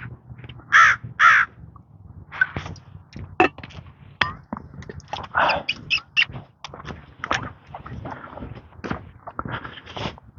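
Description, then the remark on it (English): Three crows caw loudly, two harsh back-to-back calls followed by several more scattered caws, over faint outdoor rustling and what sounds like footsteps. “Coming up some crows. Hello, crows.”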